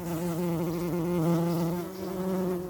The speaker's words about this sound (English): Oh no, bees!